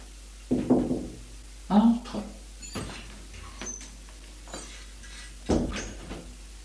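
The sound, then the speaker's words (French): Knocking on a brother's bedroom door in the morning: several sharp raps spaced unevenly over a few seconds, with muffled voice-like murmurs mixed in between the knocks. “Lorsque, le lendemain matin, elle va frapper à la porte de son frère, elle le fait comme tous les matins, tout naturellement, sans crainte, ni arrière-pensée.”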